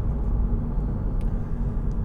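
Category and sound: vehicle, car driving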